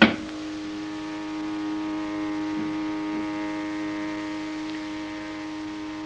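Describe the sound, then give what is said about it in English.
A steady, droning mechanical hum with strong tonal whine, starting with a brief thump and running continuously at even loudness: a noisy elevator motor as the car goes up to the fourth level. “This noisy elevator may help us a great deal”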